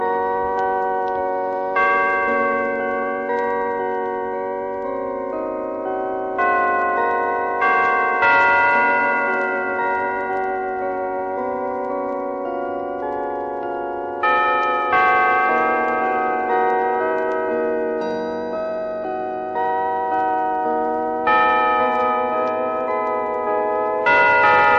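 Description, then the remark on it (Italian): Carillon bells at the Regina Apostolorum sanctuary play Schubert's Ave Maria, a slow, flowing melody, each struck note blooming with bright overtones and a long decaying ring that overlaps the next. The bells play steadily and fairly loud, with no voices. “questo brano qua, che è l'Ave Maria di Schubert, suonata con le campane Carillon, dalla scuola, da Skullmerich, dal santuario Regina Apostolorum.”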